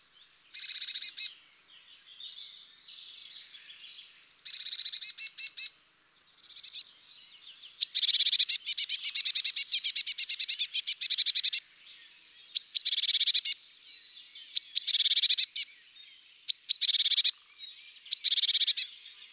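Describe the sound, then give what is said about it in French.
Blue tit calls: repeated bursts of high, buzzy, scolding churring notes with short rapid trills, sounding nervous and agitated, fairly loud, with no speech. The bird is upset by the recordist's presence. “Parmi les nombreux cris de la mésange bleue, le plus remarquable est un tserrédédet, nerveux, comme irrité.”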